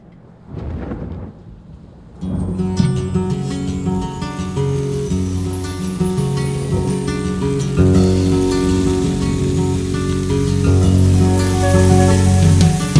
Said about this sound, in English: Listen to the pouring rain, listen to it pour.